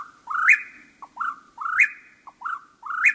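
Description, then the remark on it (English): A whippoorwill sings its repeated three-part whistled call after dark, about five phrases in quick rhythmic succession, loud with a rising sweep in each, over a quiet nighttime background. “After dark, when most birds sleep, a few break into song, like this whippoorwill.”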